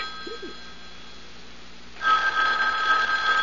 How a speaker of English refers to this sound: Well, Mrs. Greenway, aren't you going to answer it? Answer? The phone. Okay, don't bother. I will.